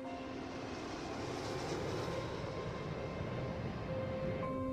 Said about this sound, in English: As Tracy stares into the middle distance, now a plane takes off from a runway.